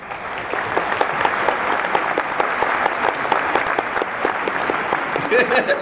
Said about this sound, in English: Exactly. He's here. You actually need a round of applause.